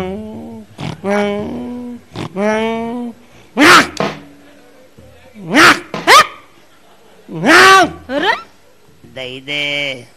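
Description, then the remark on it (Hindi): A man's voice mimics a dog, producing a series of loud, close barks and yelps in short bursts with brief pauses between them, sounding playful and exaggerated. “तो कुत्ता मालूम क्या कर रहा? क्या कर रहा?”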